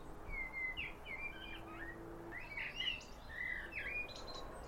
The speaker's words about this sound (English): So I've stopped the recording now. We have picked up some birds, as you can hear. Ideally, you want to do it in a more quieter scenario than a back garden. But there are some birds here, so that is always helpful.